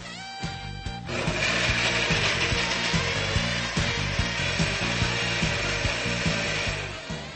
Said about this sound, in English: I'm going to add the bananas and the apples. And then I will add my yogurt and my milk. I'm adding about 200 cc's of milk today. I think I'll have enough of a smoothie to share with someone else. Now let's blend it up.